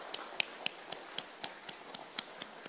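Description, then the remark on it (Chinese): Light, scattered applause at a church service welcoming new visitors: about a dozen sharp, crisp claps in a fairly steady rhythm, soft overall with a faint hiss between them and no voices. “我们给些掌声欢迎她们来我当中。”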